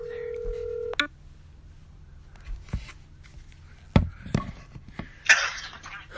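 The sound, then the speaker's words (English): A steady two-tone phone dialing beep sounds for about a second, followed by scattered clicks, taps and handling noises, with a short hissy burst near the end. “Call Herbie or Green Tip Sales Merge Calls”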